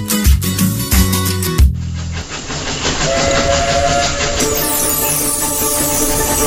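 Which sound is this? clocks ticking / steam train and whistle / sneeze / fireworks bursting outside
steam train and whistle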